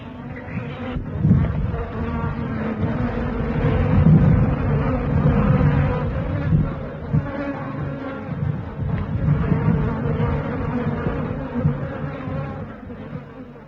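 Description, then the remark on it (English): A dense, steady hum of many flies buzzing together over the remains of a lion kill, low and continuous with small swells in loudness, filling the whole stretch with no voices. “From the miserable remains rose a hum of activity.”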